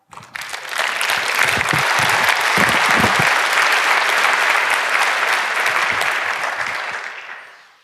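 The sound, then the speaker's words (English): An audience at a talk breaks into steady, sustained applause, a dense wash of many hands clapping at an even loudness for several seconds before it tapers off at the end. “And while we wait, we can have another round of applause for Bunny.”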